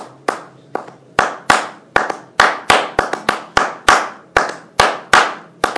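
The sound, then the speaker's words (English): Sharp hand claps strike in a quick, intricate syncopated pattern, with uneven spacing and bursts of doubled claps, each loud and crisp with a short decay, and no voices. “And when they get out into the forest, sometimes Krishna and Balaram, they go into the middle and the boys begin to clap their hands. And they clap in a very intricate way.”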